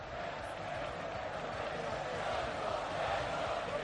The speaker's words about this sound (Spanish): Soco, quédate, que canta la gente, ¿eh? Vamos a escuchar la gente.